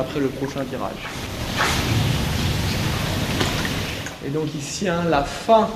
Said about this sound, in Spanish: si prestan atención, se puede escuchar la lluvia que llega